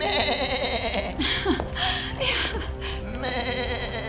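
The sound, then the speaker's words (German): A goat bleats several times in quick succession, wavering, nasal cries, as it is led out to a field to graze, set against a steady background hum with no talking. “Komm, liebe Ziege, komm.”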